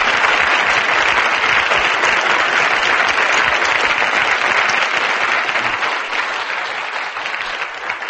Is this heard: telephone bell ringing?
no